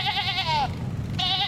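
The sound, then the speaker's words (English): A sheep bleats twice, first a long wavering call, then after a short pause a second one that begins, both loud over a steady low rumble. “On the way, he hijacked a sheep.”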